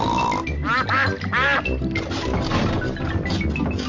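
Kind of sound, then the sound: bird, ducks quacking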